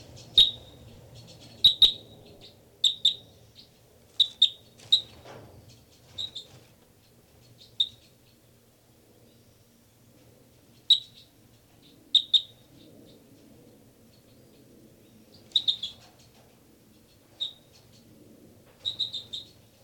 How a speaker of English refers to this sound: Start recording now. This is the song of bird 318. Bird 318 here.